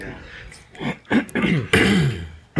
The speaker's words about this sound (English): Don't cough into the microphone.